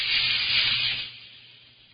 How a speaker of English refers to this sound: Suddenly a sound like a blowing of a violent wind came from heaven and filled the whole house where they were sitting. And I wonder whether it was something like whoosh!